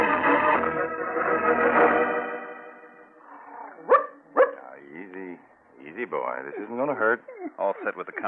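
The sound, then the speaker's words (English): A steady droning tone fades, then a dog that had uranium compound taped to its body, being moved to be checked with a Geiger counter, gives two sharp barks, followed by a run of high whines and yips. “Move the dog over this way, Father Peter. Over with you, boy.”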